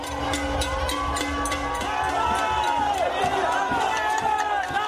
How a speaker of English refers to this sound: After the announcement of Governor Rossello's resignation, large crowds of protesters gathered outside his residence to celebrate.